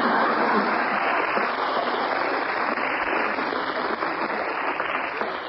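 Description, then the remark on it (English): A full round of applause from an audience, a dense, steady wash of clapping that stays loud and even for about five seconds with no voices over it. “How to get a round of applause in three easy lessons.”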